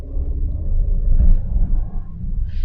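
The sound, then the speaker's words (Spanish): A steady, heavy rumble of traffic as several cars pass by, a continuous low roar that swells and eases slightly, with a brief higher hiss near the end and no talking. “Hay muchos carros.”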